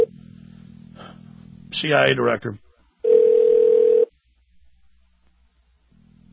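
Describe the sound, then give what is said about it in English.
A phone line hums, a voice speaks briefly, then a single loud, steady ringback tone sounds for about a second before the line falls quiet. “It's ringing, it's ringing, it's ringing.”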